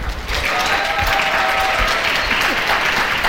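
Steady audience applause fills the whole stretch, a dense, even wash of many hands clapping at constant loudness, with faint crowd murmur and a brief whistle-like tone mixed in.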